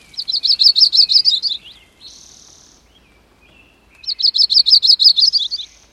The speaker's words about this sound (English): What could be more delightful than offering refreshment to a worn-out migrating warbler that will return next spring to sing this song?